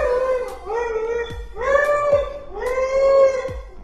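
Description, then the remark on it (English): A dog howls in three drawn-out, wavering cries, each rising and then sliding down, fairly loud with brief pauses between them. “So if I want to spy on my dog, I can do that right from my phone.”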